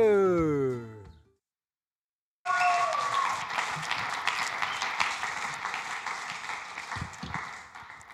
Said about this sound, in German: Ein herzlicher Applaus für dich.